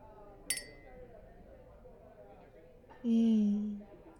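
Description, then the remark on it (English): A single bright clink of drinking glasses touching in a birthday toast over drinks at a restaurant rings briefly near the start, over a low murmur of room noise, followed by a loud, sustained voiced tone. “Cheers. Happy birthday, baby.”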